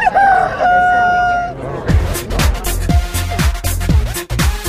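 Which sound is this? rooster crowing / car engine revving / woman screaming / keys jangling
rooster crowing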